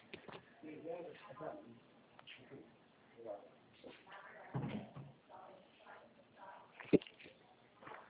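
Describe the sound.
A door is pushed shut by a person during a phone call, a single sharp thud near the end, brief, following stretches of muffled voices talking.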